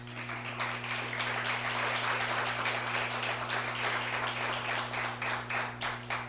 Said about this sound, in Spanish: Denle un aplauso.